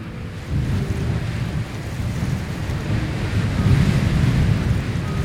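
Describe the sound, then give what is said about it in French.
Steady, low roaring wind buffets the microphone at the Chamrousse ski station in Isère at 8 a.m., 0 degrees Celsius under a clear sky, as the wind rises, swelling slightly stronger toward the end, with no voices. “Station de Champs-Rousses, Isère, 8h, 0 degrés Celsius, ciel dégagé, le vent se lève.”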